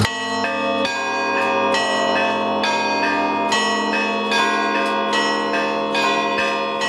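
Orthodox church bells ring in a rapid, overlapping peal, several bells of different pitches struck again and again with long shimmering overtones, loud with no voices.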